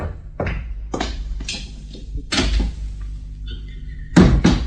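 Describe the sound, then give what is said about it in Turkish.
A door is opened amid a series of wooden knocks, clunks and scrapes, several sharp impacts spread across a few seconds with a faint metallic jingle partway through and no talking. “Neymiş kapıyı açmamana sebep? Pekala, hadi, gidiyorum. Kapıya, marş.”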